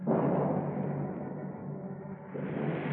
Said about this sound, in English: Over the Santa Monica Mountains, huge purple rain clouds move in from the ocean. Thunder mutters sullenly.